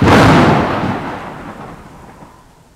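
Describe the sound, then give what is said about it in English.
A loud, deep rumble of thunder bursts in at once and rolls on, slowly fading into a low, lingering grumble. No voices, just the storm. “On Wednesday, it's stormy.”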